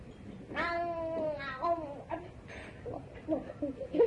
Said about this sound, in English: That was Cookie Monster, guys. Cookie Monster, the cat.